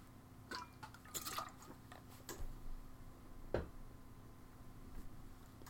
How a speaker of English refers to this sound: Just need to have a drink of water here.